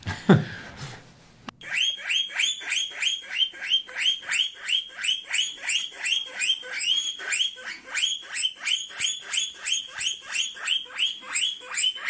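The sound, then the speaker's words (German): A guinea pig squeaks over and over in loud, high-pitched rising whistles, about two or three per second in a steady run, after a brief burst of noise at the start. “Meerschweinchen? Ja.”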